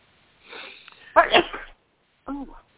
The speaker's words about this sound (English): Bless you.